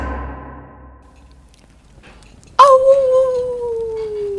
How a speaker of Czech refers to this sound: Někde ve velké kamenné změti Zimohradu zavil vlk. Ten zvuk visel nad hradem jako smuteční vlajka.